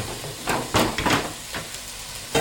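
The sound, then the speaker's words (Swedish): Steady sizzling hiss of chopped yellow onion frying in hot oil in a large pot, with a few louder crackling bursts and stirring clatters, no talking. “Så då har vi hettat upp lite olja i den här stora grytan då. Och så när den är varm så har vi i den hackade gula löken då.”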